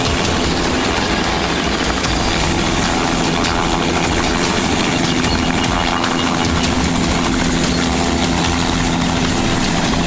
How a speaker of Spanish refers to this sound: helicóptero regresaba y se disponía a aterrizar en la carretera. Omni-Man y Tamara observan. El helicóptero aterriza y desciende Titi.